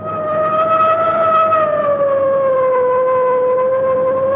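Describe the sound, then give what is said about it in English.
A loud car siren wails steadily, its tone sliding slowly downward over a few seconds with no voices present, sounded while closing in on a truck ahead. “I guess it's time to sound the siren.”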